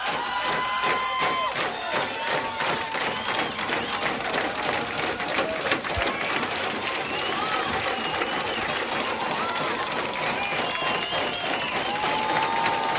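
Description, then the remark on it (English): A large concert crowd at the Old Waldorf in San Francisco claps steadily and loudly for an encore, with scattered whistles and shouts mixed into the dense, continuous applause that never lets up across the whole stretch. “Well, the crowd's not giving up.”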